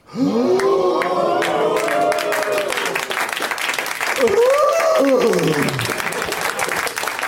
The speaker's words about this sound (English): Long applause.